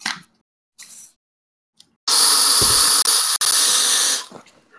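A loud, steady rush of breathy hiss lasts about two seconds, broken by two quick dropouts, after a few short soft puffs; it sounds like vape vapor blown straight into a microphone.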